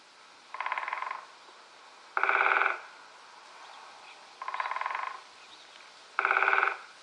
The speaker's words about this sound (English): A woodpecker hammers at the tree to communicate with potential mates and rivals.